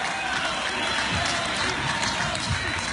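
An audience bursts into sustained applause for a singer being honored with a plaque, dense, steady clapping mixed with cheering that holds at a loud, even level throughout, with no single voice standing out.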